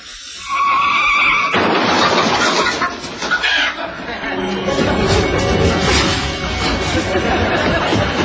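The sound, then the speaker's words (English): A short tire squeal gives way to the loud crash of a chicken truck overturning on the Long Island Expressway, followed by several seconds of sustained, chaotic crashing noise, loud throughout. “Two lanes of the Long Island Expressway have been temporarily closed due to an overturned chicken truck.”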